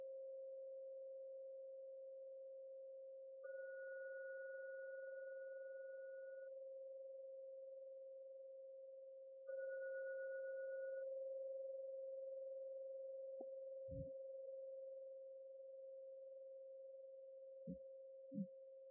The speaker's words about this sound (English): I will now ring the gong 3 times. Please listen to every sound from the gong. Now the third ringing of the gong, when it vanishes, come out for your meditation.